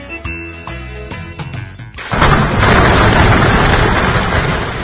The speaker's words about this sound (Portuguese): você está ouvindo esse barulho? Então, é prenúncio de queda de raios.